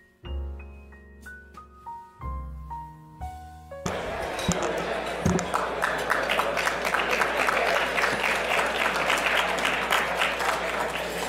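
A short melodic intro of bright, bell-like tones gives way to sustained, loud applause from an audience at a legal and policy conference in Washington, D.C., a dense steady clatter of clapping that continues to the end.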